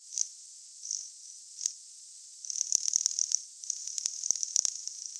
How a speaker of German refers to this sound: So klingt es, wenn ein Schweinswal sich seiner Beute nähert. Die meisten Leute sehen ihn nie. Das ist tatsächlich so, weil der Schweinswal ein relativ kleines Tier ist.